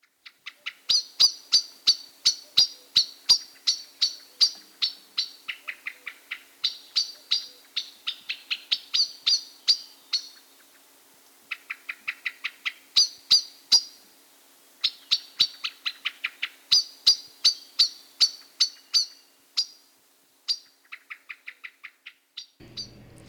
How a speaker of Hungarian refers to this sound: A skálázás négyszeres lassításban így hangzik. Csettegése vékonyabb és fémesebb a fekete rigónál.